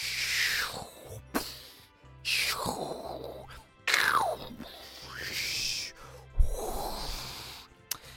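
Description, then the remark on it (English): A voice imitates the sea with four breathy, rushing whooshes that swell and fade in a steady rhythm, fairly loud, with no words spoken. “Yeah, I don't think sound effects of seas is my strongest point.”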